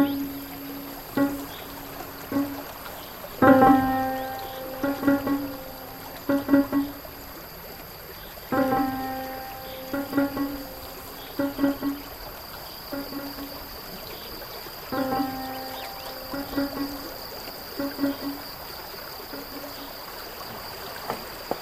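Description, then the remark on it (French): The Bonheur stream flows across the dried basin of an ancient lake on the Camprieu plateau, 1100 to 1130 m altitude, in the Gard department, France, with a constant rushing, babbling wash of water. Recurring groups of short tonal, ringing knocks sit on top of it. No one speaks. “Dans le département du Gard, à 8 km sud-est de Merueil, Lozère, le plateau de Camprieu, 1100 à 1130 mètres d'altitude, représente le fond d'un ancien lac dont le ruisseau du Bonheur traverse aujourd'hui le bassin desséché.”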